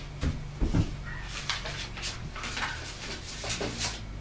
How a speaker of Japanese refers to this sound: ドア閉めて、なんで開けてんの？寒い。